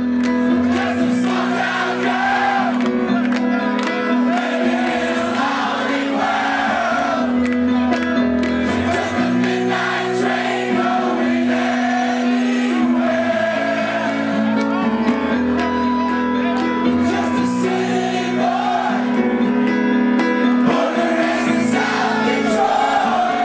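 A huge crowd of about 2,500 college students in Jamaica sings and screams at the top of their lungs along to a rock song played by a band, their voices merging into a loud, steady roar over the music for the whole stretch.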